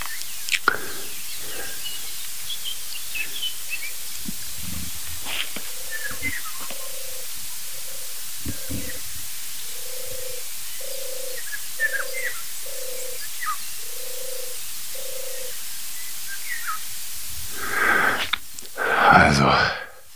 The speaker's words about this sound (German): Natürlich Herr von Bülow, der Pirol, dem wir uns ja schon etwas mehr gewidmet haben.